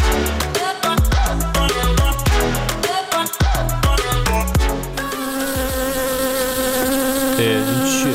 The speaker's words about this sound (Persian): این چیه؟ مگسه؟ آقا اینجا چی کار میکنه؟ این نه چیه؟ نه زنبوره، زنبوره، صداشه، فقط صداشه، نگران نباش.